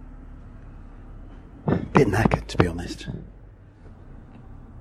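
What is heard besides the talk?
inside a moving bus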